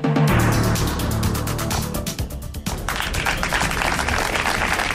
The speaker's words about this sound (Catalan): Són els aplaudiments al final de la lectura del manifest del Sindicat de Comissions Obreres i la UGT a la Rambla Nova de Tarragona.